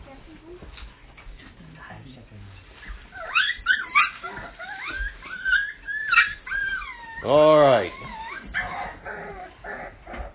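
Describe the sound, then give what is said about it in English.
Dogs whine and yip in high, wavering cries, ending with one loud bark-like howl, while a man speaks briefly at the start. “Don't worry about them. They're NIV dogs.”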